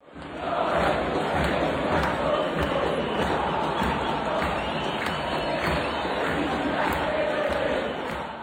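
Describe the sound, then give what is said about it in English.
A huge stadium crowd at Arrowhead Stadium in Kansas City roars and cheers continuously at the 2026 World Cup quarterfinal soccer match between Argentina and Switzerland. A dense, loud wall of voices with chanting swells and no pauses throughout. “That's from Arrowhead Stadium in Kansas City during the quarterfinal match between Argentina and Switzerland, courtesy of Kansas City World Cup 2026.”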